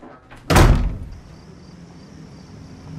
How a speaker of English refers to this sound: Chloe marches back to her room and slams the door.